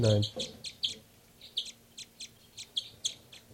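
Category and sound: bird, birds calling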